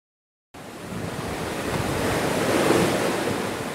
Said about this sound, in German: Im Sommer 1991 brachen sich die Wellen des Arktischen Ozeans am Bug zweier Schiffe. Die beiden Forschungseisbrecher, die deutsche Polarstern und die schwedische Oden, nahmen Kurs Richtung Norden.